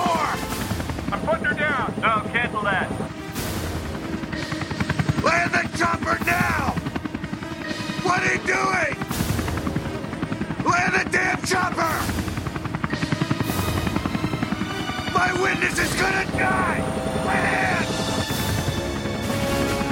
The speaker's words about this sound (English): Just get the chopper back here.